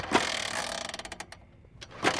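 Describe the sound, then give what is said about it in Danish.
A moped kickstarter is kicked outside a Sparekassen Sjælland bank, giving a burst of rapid mechanical ratcheting and clicking that fades, then another sharp kick; the engine never catches. “Du kan bare høre, hvordan, når du jogger på kickstarteren, hvordan den bare kører derinde, at der ikke er nogen.”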